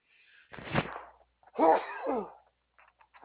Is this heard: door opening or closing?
no